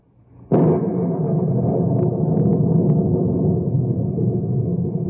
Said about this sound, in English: Gigantic thunderheads are passing over the knotty pine country, and the monsters lash out with angry streaks of lightning.